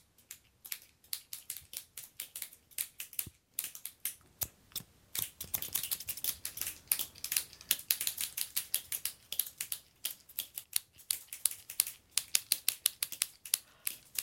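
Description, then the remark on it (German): Scissors from a pencil case snip steadily, a long run of quick, crisp metallic cuts with a brief pause early on, then a brisk rhythm that speeds up toward the end. “Und da ist so eine Schere. Was macht die? Die macht dieses Geräusch.”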